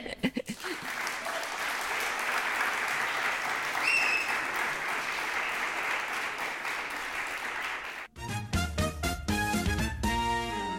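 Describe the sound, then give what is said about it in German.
An audience at the end of a live event claps loudly on request in a dense, sustained wash of applause for about eight seconds, then it cuts off and music with clear tones and a beat takes over. “Ihr dürft jetzt alle nochmal richtig laut klatschen, damit wir jetzt zeigen können, wie voll es jetzt geworden ist.”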